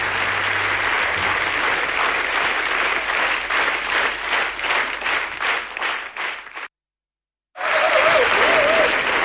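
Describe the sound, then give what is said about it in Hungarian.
Loud, sustained applause from a large audience, dense clapping with rhythmic surges, briefly cutting to silence before the clapping resumes. “Köszönöm meg, Taps!”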